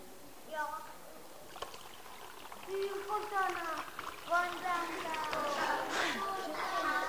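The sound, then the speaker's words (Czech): Water poured into a bottle full of small holes, including in the bottom, streams out everywhere like a fountain in a steady splashing trickle, mostly under several excited children's voices chattering over it. “A když tam tu vodu naleju, co se s ní stane? A víte, jak bude téct ta voda ven? Všude, bude dělat vodotrysk.”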